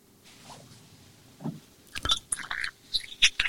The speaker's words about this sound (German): So, Schluck Wasser muss sein.